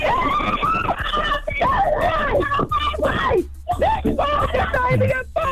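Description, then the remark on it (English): A woman's orgasmic screams and moans, loud, rising and falling in pitch in a continuous series of vocal cries with no clear words. “And now you're getting orgasm screams.”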